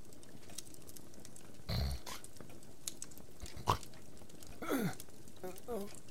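The miser Scrooge snores in bed at night, giving several rough, irregular snorts with gravelly, low rattling breaths and a couple of wheezy pitched whistles between them, over a quiet background hiss.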